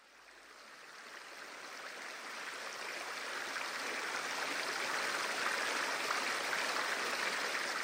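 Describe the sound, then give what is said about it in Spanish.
The Magdalena River in Colombia flows steadily with a continuous, rushing hiss that swells slightly over the first few seconds and then holds even, with no voices. “La cuenca del río Magdalena atraviesa prácticamente un cuarto del territorio total de Colombia.”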